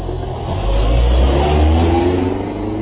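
A car engine revs up loudly and steadily, its low rumble swelling as the car pulls away to drive to school, with no voices present.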